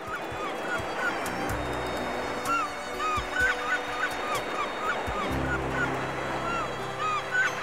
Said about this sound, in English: Before leaving, let's listen a little to the sound of the sea.